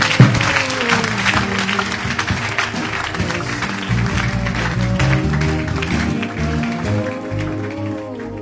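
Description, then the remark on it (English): A crowd claps for Jesus during a healing prayer, steadily for several seconds, a dense, sustained wash of applause with sustained musical tones underneath and no clear voices. “Can you give Jesus a clap?”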